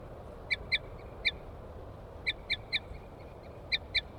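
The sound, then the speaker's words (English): Wild birds at a bird cage, a female tooting and a male chittering on approach, call in quick clusters of two or three short, high, clear notes, repeating every second or so over a steady low background hiss. No one speaks. “Female, toots. Male chitter on approach.”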